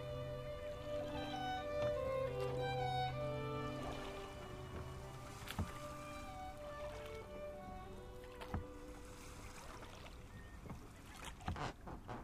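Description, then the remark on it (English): A small boat moves on the sea, with steady lapping and sloshing, a low hum early on, and a few sharp knocks and creaks from the hull; no one speaks. “It's not a good idea to stand in a small boat.”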